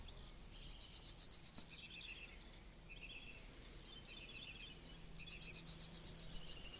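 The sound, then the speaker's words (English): A yellowhammer sings twice, each song a fast, high, even series of a dozen or so buzzy chirps ending in longer drawn-out notes, clear with no voices. “Well, that lovely bird is the yellowhammer.”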